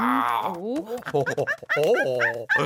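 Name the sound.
people imitating monkey noises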